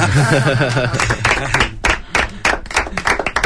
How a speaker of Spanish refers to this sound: Bueno, un aplauso, ¿no?